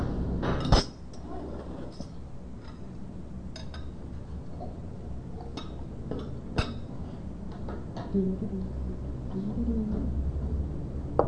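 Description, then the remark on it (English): A gravy spoon clinks against dishes several times at an irregular pace, sharp metallic taps ringing out over a low murmur of room noise and soft kitchen clatter. “That is the gravy spoon.”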